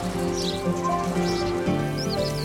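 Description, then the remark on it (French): A house sparrow chirps in a few quick bursts of short, high tweets, fairly faint and spread across the moment, over a steady, sustained tonal background with no talking. “Le moineau,”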